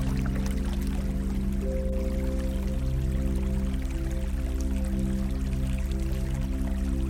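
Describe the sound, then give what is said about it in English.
A river bubbles and murmurs steadily and continuously, close by, blended with a low sustained musical drone, with no voices present. “Immersed in the gentle sounds of the river, bubbling and murmuring beside you.”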